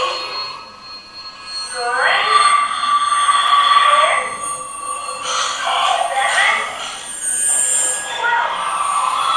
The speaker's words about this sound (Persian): ببینید صداها رو همه رو گرفت، فقط این صدای رسیدن مترو میگه قطار شماره 12 داره میاد.